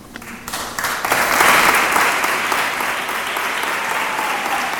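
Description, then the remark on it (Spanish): A crowd of parishioners applauding together at the unveiling of a poster, with representatives of the Junta de Cofradías present, the clapping swelling quickly after a brief start and then holding steady and full for several seconds, with no talking over it. “Tras descubrir el cartel, con la presencia de las distintas representantes de la Junta de Cofradías y ante el aplauso de la feligresía,”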